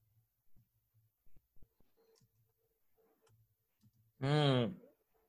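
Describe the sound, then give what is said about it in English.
Sparse, soft computer keyboard clicks tap out an irregular rhythm as someone quickly types up what another person is doing, then a single loud, brief voiced cry cuts in near the end. “So I'm just typing all this up here quickly as you're doing it, huh?”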